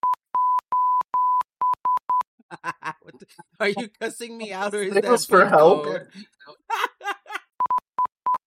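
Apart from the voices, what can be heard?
electronic beeping tones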